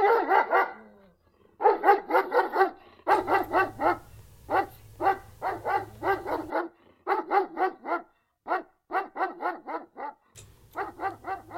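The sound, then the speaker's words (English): A dog barks rapidly and insistently in quick bursts of sharp, loud barks with brief pauses between volleys, while a low hum sits underneath for stretches. “That dog was on a holy mission.”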